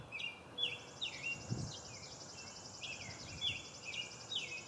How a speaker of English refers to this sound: Birds are right in the tree above me. That should be nice and clear for you today. As we do our morning bird songs.